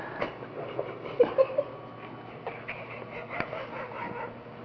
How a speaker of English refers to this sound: It's the dogs, you see. They're trying to get in on the interview. They both tried to climb up my nostrils.